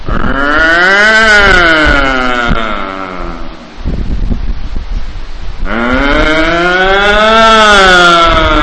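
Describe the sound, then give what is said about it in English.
A voice mimics the alarms of cars parked on a New York street going off: two long, loud wailing tones that rise and fall in pitch, separated by a brief burst of rough, noisy sound in the middle. “You heard car alarms when they go off? There's this cacophony of car alarms.”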